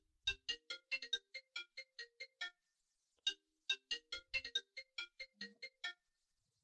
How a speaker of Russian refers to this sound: Что-то у кого-то телефон заиграл. Блин, что она играет? Да я понимаю, а где он играет-то, блин? Кто тут телефон-то оставил? Я понял, что это уже у меня играет.